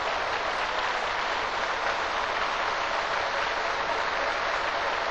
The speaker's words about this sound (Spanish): Vamos a darle un fuerte aplauso a Jesucristo. ¡Aleluya!